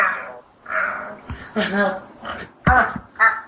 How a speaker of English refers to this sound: You hear the dog? Oh. Tiny, tiny. Tiny! Yeah, it's Tiny. She's Tiny's responding when I call.